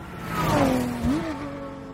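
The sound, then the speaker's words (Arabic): The engine of a long-bodied Ford car revs fairly loud, its droning pitch dipping briefly and then climbing in a quick burst before settling into a steady roar, with no one talking. “في دعاية لإحدى سيارات فورد طويلة الهيكل كان شعارها: خلي اللي وراك يعرف أنك قدامه، باللغة الإنجليزية طبعا.”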